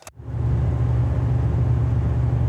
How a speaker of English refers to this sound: Okay, let's listen to fan number three.